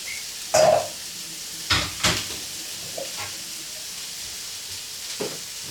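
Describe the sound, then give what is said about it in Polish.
Steady, moderate sizzling of chicken frying in a pan, broken by a few sharp clinks and scrapes of a utensil early on; no one speaks. “Teraz czekamy, aż się kurczak usmaży, bo wszystko zostało kurczak.”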